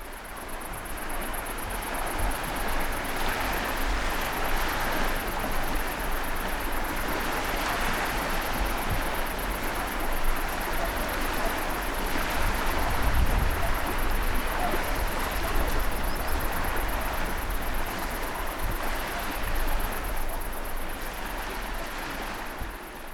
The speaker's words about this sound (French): Bon, alors, on est dans le sud, il y a les cigales, il y a la mer. C'est une personne qui avance dans l'eau, comme ça. Ça donne très envie d'y être, en tout cas.